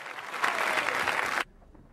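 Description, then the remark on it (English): A theatre audience applauds a woman parading across the stage, a dense, steady wash of clapping at fairly loud level that holds for about a second and a half, then cuts off abruptly into near silence. “She parades across the stage, brimming with happiness at the applause and Percy's attention.”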